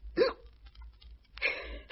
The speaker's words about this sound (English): Oh, blast. I've got hiccups.